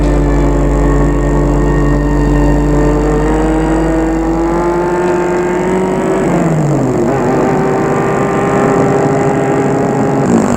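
A car that has left the motorway drives steadily along a road, its engine humming with a low droning tone that dips and shifts as it slows and changes gear, continuous with no voices.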